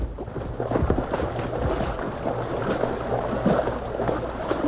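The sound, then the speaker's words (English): Rushing river water churns steadily, a dense, continuous roar with splashes and sloshing as someone wades hip-deep through the fast current. No voices are heard. “Careful, Tonto. The water's mighty fast. Get plenty deep, too.”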